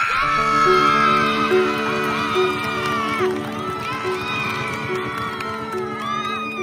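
A crowd screams and cheers wildly after a shot scores in the last seconds of a game, many high voices shrieking and yelling at once in a loud, sustained roar that barely dips for several seconds.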